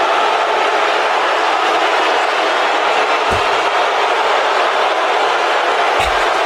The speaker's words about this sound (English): This is the reaction we want. Listen yeah. to the roar of this crowd.